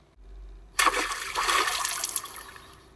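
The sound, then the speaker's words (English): A burst of rushing, bubbling water swells in suddenly and churns steadily for a couple of seconds, like an underwater whoosh with no voices present. “Underwater.”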